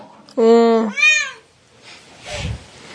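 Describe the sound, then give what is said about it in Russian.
A cat, just being taken out of a bath, lets out one loud, drawn-out meow that bends upward in pitch near the end, followed by quieter shuffling noises. “Ну и сейчас вроде бы кот успокоился.”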